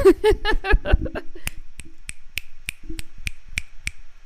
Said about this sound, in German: Man schnippst doch statt zu klatschen zur Unterstützung.